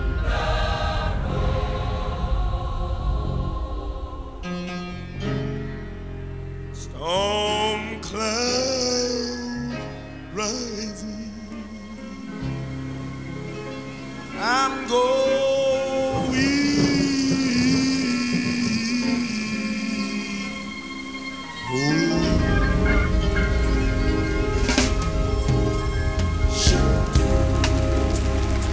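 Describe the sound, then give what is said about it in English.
Steady heavy rain hisses throughout, with deep rolling thunder rumbling low beneath it, the downpour swelling louder toward the end. “And I heard the thunder.”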